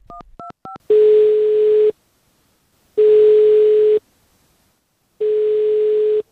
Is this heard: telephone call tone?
yes